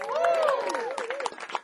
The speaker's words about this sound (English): Starts clapping just in case y'all weren't going to do it.